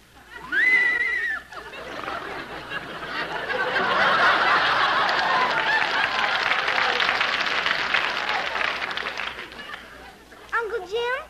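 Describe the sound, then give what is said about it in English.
A high, shaky whinny from a horse named Deborah, pulling a wagon up to Mr. Benny's house, opens, followed by a long swell of audience laughter and applause, and then another quivering whinny cuts in near the end. “I pay him 50 cents a week to let my horse graze on his lawn”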